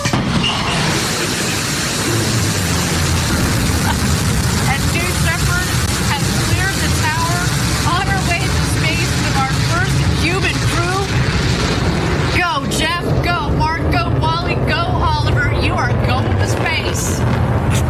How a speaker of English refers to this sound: It was Amazon founder Jeff Bezos's turn to launch into space on his Blue Origin rocket. And the launch was completely successful.